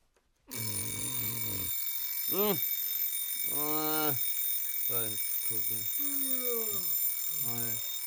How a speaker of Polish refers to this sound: Wyłącz to, proszę, budzik.